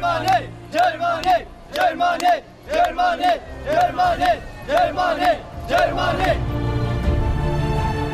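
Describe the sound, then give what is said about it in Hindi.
A crowd chants a short slogan in unison, repeating the same rhythmic phrase about seven times with brief gaps, loud and steady, before dissolving into a continuous roar of voices. “Eritrea में सेना, Somalia में अलशबाब, सीरिया में इस्लामिक स्टेट, अफगानिस्तान में गरीबी और पश्चिम अफ्रीका में अशांति से जूझ रहे लोगों की जुबान पर बस यही नारा सुनाई दे रहा है।”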